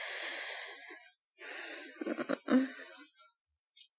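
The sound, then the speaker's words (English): Heavy, ragged, fast breathing of a scared person, with no talking: a long hissing exhale, a short pause, then a strained breath with a wheezy, gasping catch in it, fading to quiet. “I can see how fast you're breathing.”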